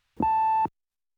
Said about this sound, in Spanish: No podemos contestar el teléfono en este momento. Por favor, después de oír el tono, deje un breve mensaje. Gracias.